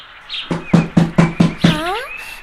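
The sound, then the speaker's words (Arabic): Zarzour knocks on the door of Da'suka and Da'suk's home: six steady, evenly spaced knocks, firm and hollow-sounding, followed by a short wavering squeak as the knocking stops. No one speaks. “نعم يا أصدقائنا، في هذه الأثناء سمعت دعسوكا ودعسوك أحدا يطرق الباب، فأسرع الاثنان لكي يعرفا من الذي يطرق الباب.”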